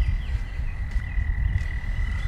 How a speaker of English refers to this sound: Of course, these frogs singing.